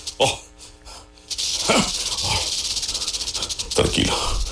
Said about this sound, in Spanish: Oh, ¿qué es esto? ¿De dónde han salido tantas serpientes?